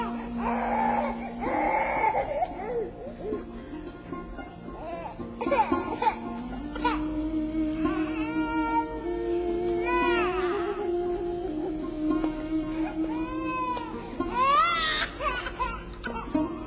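A baby cries in long, strained wails broken by short sobbing gasps and whimpers, the pitch rising and falling, continuing steadily throughout.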